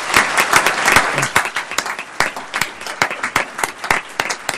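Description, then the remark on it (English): An audience applauds steadily for several seconds for Senator Margaret Carter, a dense wash of many hands clapping at once with sharper individual claps standing out. “Ladies and gentlemen, Senator, always Senator Margaret Carter, give her a round of applause.”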